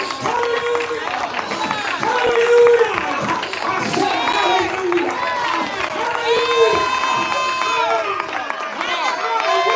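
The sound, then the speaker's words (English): A church audience shouts loudly and continuously at the preacher's urging, many voices overlapping in a dense, sustained roar of cries and whoops with no single speaker standing out. “Somebody shout real good and loud right there, and maybe I can move on.”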